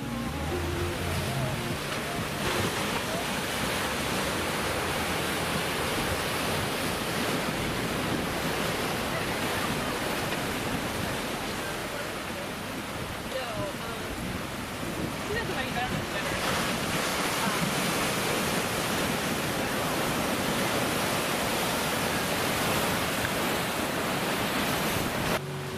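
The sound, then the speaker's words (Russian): Loud surf churns steadily as sea waves break and crash against rocks, with gusty wind buffeting the microphone throughout and no talking. “Идет волна, идет. Давай в каменюку. Бабах.”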